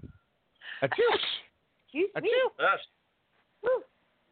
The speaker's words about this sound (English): Achoo.